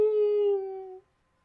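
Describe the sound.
A person's voice imitates a pet cat's drawn-out, howling meow, one steady tonal wail lasting about a second before cutting off into silence.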